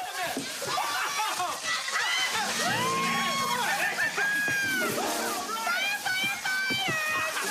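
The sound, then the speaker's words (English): A steady hissing jet of water from a jet spray turned on a crowd of dinner guests, who shriek, yelp and laugh in overlapping high-pitched cries, the splashing noise continuing loudly beneath the voices throughout. “She turns a jet spray on all of them.”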